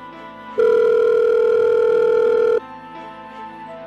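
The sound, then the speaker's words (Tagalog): A single loud, steady ringback tone from a mobile phone call drones for about two seconds, then cuts off, leaving a quiet background with faint noise. “Teka, tatawagan ko nga para pagsabihan.”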